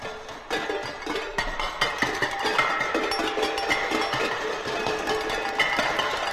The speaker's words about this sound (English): Bang pans.